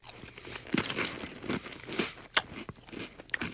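Close, wet chewing of salty, cheesy Goldfish crackers softened in milk as a breakfast cereal, with irregular crunches and squelchy bites repeating over a few seconds, no talking.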